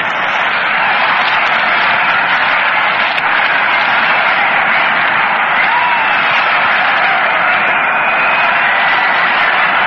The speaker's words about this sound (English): Oh, I wanted you to hear that applause, that enthusiasm. Yes, that incomparable enthusiasm that they release here in the Polo Grounds.